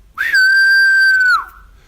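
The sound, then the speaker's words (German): A black woodpecker's flight call: a single loud, drawn-out whistled note about a second long, holding a steady clear pitch before dipping slightly at the end, with no other sounds around it. “Die ist stark abhängig von einem anderen Vogel, von einem großen schwarzen Specht.”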